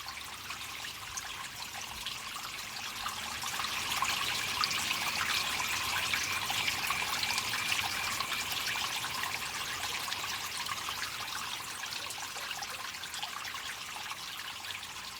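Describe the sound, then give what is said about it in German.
Water trickles steadily and continuously, a soft hissing babble that swells slightly after the first few seconds and then holds at an even, moderate level with no voices. “Mit Wasser haben wir alle schon unterschiedliche Erfahrungen gemacht.”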